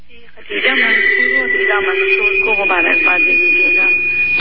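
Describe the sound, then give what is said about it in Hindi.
A radio plays loudly and steadily during a phone call to an Eid radio call-in programme, its broadcast sound carrying a sustained high whistle or feedback tone, with a voice and music-like harmonics mixed through the transmission. “Radio की आवाज हल्की कर लीजिए।”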